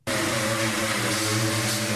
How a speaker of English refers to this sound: That's a sanding tool made by Temple Allen Industries in Maryland. Has only a dozen employees, but sells to big clients.